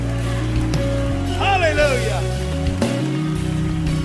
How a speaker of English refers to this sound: And if I have a church that believes it and receives it, clap your hands and give God the best praise you've given Him all year long. Come on.